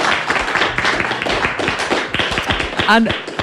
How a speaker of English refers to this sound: Yeah, I think that deserves a round of applause, actually.